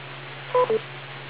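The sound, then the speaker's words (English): Two short electronic beep tones from the TechNet telephone net system, the first slightly higher and longer than the second, over a steady low hum on a band-limited telephone-style line. No one speaks. “we should add 2 or 3 more seconds beyond the beep before picking up so that other people in the outer areas are able to sign in”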